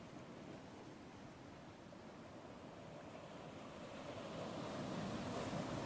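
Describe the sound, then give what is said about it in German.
Waves lap steadily on a beach in a continuous, hissing wash of water that swells slightly louder toward the end, with soft wind noise and no voices. “Wir hören die Wellen plätschern.”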